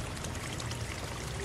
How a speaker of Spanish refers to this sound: Escucha, escucha, escucha. Tal vez sea un manantial de agua dulce o el aguacero en un exuberante bosque tropical. Agua, agua, agua, agua.